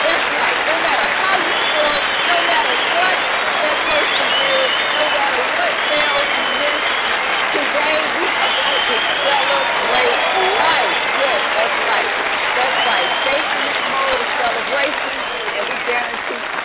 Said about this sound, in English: Matter of fact, I think we need a round of applause for that. Let's celebrate life today.